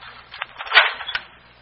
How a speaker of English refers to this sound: A short time later, in city jail, police Lieutenant Donald Halperson follows a guard down a stone corridor, stops as the guard unlocks the door to Francis Riley's cell.